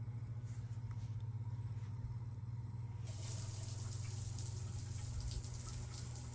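shower water running

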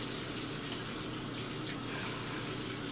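running water

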